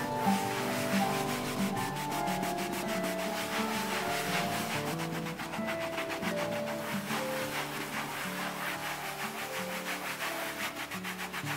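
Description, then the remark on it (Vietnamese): A clean cloth rubs in circles on a leather seat, a steady, scratchy swishing with quick repeated strokes that continues without pause for the whole stretch, and nobody speaks. The cloth is worked over a stain that has just been sprayed with a strong cleaning solution. “Sau khi xịt chai dung dịch mạnh này lên bề mặt của vết bẩn, chúng ta lấy khăn sạch xoay tròn chỗ vết bẩn mà chúng ta vừa xịt dung dịch.”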